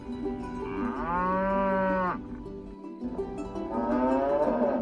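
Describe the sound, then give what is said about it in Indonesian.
Cows at Dumble Farm, a farm in East Yorkshire, England, moo loudly, two long drawn-out lowing calls separated by a short pause, with a low steady rumble of farmyard background underneath and no talking. “Sebuah peternakan di East Yorkshire menawarkan pengalaman relaksasi baru yang tiada duanya, yaitu memeluk sapi.”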